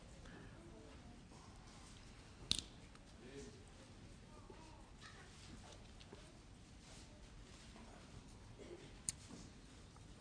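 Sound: bible pages turning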